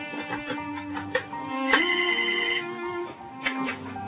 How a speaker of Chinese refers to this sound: 几个月后，我意外地接到王叔叔的电话。